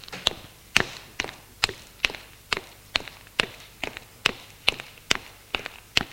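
footsteps climbing stairs

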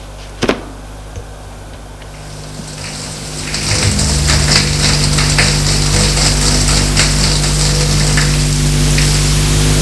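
shower water running

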